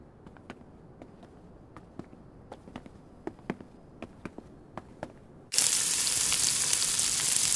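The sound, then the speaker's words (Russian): Scattered sharp crackles and taps give way abruptly to a loud, steady sizzle of large pieces of birthday steak frying, a dense hiss that fills the last couple of seconds with no voices. “Госпожа Фрирен, это что за огромные куски жареного мяса?”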